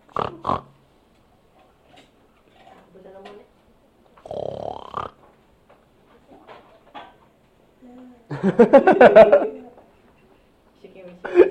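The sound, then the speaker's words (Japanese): A voice imitates a pig with a few snorting, grunting oinks in separate bursts, the last one longest and loudest, with quiet pauses and faint voices between them. “真似しようとして できないから笑われちゃってちょっと嫌ね。”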